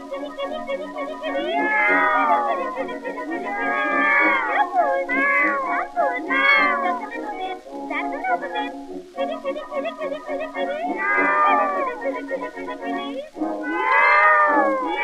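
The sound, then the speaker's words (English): A woman's voice imitates cats, letting out a long run of wavering, sliding meows and yowling caterwauls, loud, one after another with brief pauses between. “For you can hear her calling cats at any time of night.”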